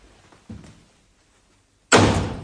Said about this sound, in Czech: Od malička ji učím, že vznešené osoby dveřmi netřískají za žádných okolností.